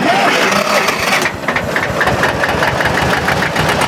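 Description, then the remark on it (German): The engine of a dark blue Hanomag C224 tractor, converted to a Borgward engine, turns over and settles into a loud, steady chugging run with a rapid pulsing rhythm and no voices. “Traktorsound, der Podcast über Traktoren, Schlepper und Trecker.”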